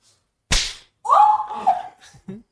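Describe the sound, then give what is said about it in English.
A single sharp, loud hand slap cracks out, then a drawn-out voiced yelp and a brief final vocal sound follow. “Okay, so you're gonna slap.”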